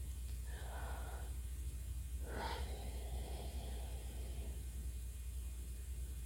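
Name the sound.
deep calming breaths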